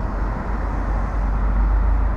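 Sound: traffic jam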